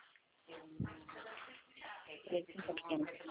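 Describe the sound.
Water runs steadily from a tap or into a tub, a continuous rushing wash, with faint voices murmuring underneath toward the end.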